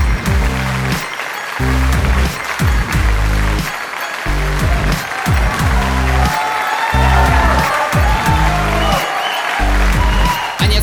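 An audience applauding, a dense steady patter of clapping that runs the whole time over loud music with deep, pulsing bass chords.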